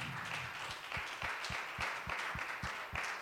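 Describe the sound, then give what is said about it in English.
An audience applauds teachers and assistants standing up, with sharp individual claps standing out in a rough rhythm over a dense wash of clapping hands, loud throughout. “Can we give these ladies a hand clap?”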